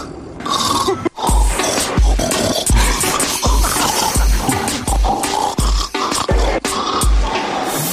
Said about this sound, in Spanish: Y vamos a recordar, con tu permiso, esta señora que estuvo grabando durante 4 años los ronquidos de su marido, pues ha hecho una mezcla que es imposible.